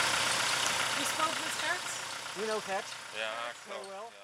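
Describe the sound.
A car engine idles with a steady, low, continuous rumble while voices talk over it, the murmur of the motor never changing pitch.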